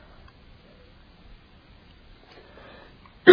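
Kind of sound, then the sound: human body sound, cough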